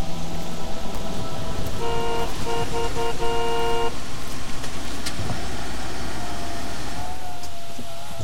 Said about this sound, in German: Langsam und schleppend trugen mich meine Füße den Rückweg entlang, bis mich ein Hupen aus meinen Gedanken riss.